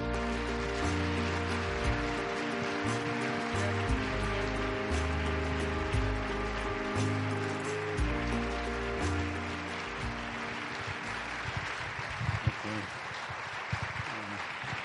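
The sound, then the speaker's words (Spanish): A crowd applauds steadily for the whole stretch to welcome Dr. Stanislav Groff, a dense wash of clapping that stays fairly even in loudness, with sustained musical tones playing underneath. “Así que démosle el aplauso que merece el doctor Stanislav Groff.”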